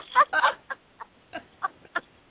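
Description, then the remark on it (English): A chicken clucks: two fuller clucks up front, then a string of shorter, evenly spaced clucks, with no talking over them. “So now it's me and the bird.”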